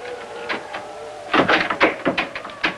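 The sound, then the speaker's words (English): A girl tries a locked door handle in a house while rain falls outside. The handle is jiggled and rattled several times in quick, uneven bursts, after a brief quiet moment with a faint hum. No voices. “Mary steps up to it and tries the handle.”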